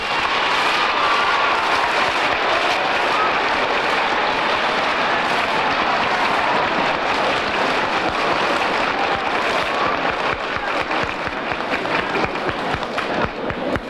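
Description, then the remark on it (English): Sustained, dense applause from a large audience welcoming Floyd Patterson, thousands of overlapping claps forming a steady, loud roar that holds for the whole stretch with no voices breaking through. “First of all, I would like to thank each and every one of you for your warm applause.”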